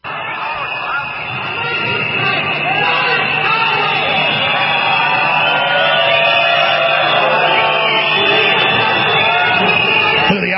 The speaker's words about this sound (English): Let's play that clip from just 30 minutes ago as Merkel and Macron, two traitors to European nations, are booed.